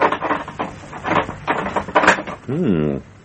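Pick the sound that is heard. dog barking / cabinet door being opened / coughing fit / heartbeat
cabinet door being opened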